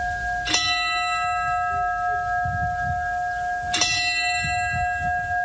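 signal or alarm, church bells chiming

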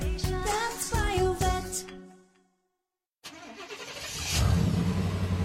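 vehicle, truck engine driving away

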